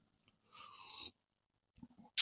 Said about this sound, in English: Coffee sip.